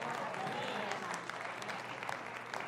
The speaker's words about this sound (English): I have no idea why you clapped for that. I am so offended right now that you clapped.